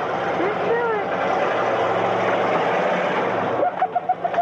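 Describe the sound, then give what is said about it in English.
The Bigfoot monster truck's engine roars loudly and continuously as its huge tires crush two abandoned cars in a farmer's field outside St. Louis in April 1981, with dense rumbling, crunching and shattering, crowd voices and kids giggling mixed in. Rhythmic pulses of sound come near the end. “Some nearby kids are heard giggling as the cars crunch and shatter under the weight.”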